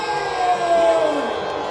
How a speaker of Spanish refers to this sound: ¡Aplauso!